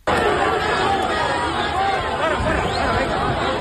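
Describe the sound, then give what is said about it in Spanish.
A large, agitated crowd boos, shouts insults and jeers at the king and queen, Felipe VI, and Mazón while throwing mud, a continuous wall of overlapping voices, loud throughout, with no single speaker standing out. “A Sánchez se lo llevaron para el coche, pero paralelamente los insultos y el barro le llovían a los reyes y a Mazón, porque el abucheo, hay que recordar que fue a los cuatro.”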